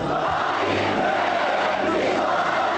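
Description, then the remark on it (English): A large crowd of flag-waving men and women at a rally in Konya's central square, Turkey, chants in unison calling for Recep Tayyip Erdogan to be Turkey's next prime minister, a dense roar of many voices at a steady, loud level with rhythmic rises. “Before he even took to the stage, the crowd started a chant calling for him to be Turkey's next prime minister.”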